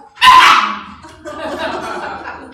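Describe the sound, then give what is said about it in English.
An eight-month-old rough-haired collie lets out a sharp, loud yip while trying to play with another dog, followed by a stretch of softer, continuous whiny barking and yipping noises. “He loves other dogs.”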